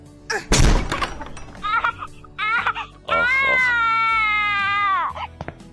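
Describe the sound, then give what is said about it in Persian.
A cat meows several times in an apartment, short calls leading into one long, drawn-out wail that rises and then falls away, with a brief thump and scuffle near the start. “آخه توی آپارتمان سگ یا گربه نگهداری میکنن؟”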